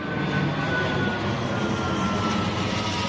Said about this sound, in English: recorded the jets flying over her daughter's school one day. She counted 4 of them in 9 minutes.